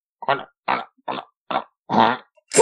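A run of six short, fart-like grunting bursts from underneath the ground, evenly spaced about half a second apart, fairly loud, with the last one cut off; no one speaks.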